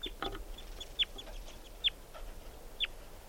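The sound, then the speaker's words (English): A juvenile wild bird, which is with two others, calls three times, short high-pitched peeps that slide downward, spaced about a second apart over a quiet, faintly noisy background. “Wild bird. So recording collected that bird. It's a juvenile.”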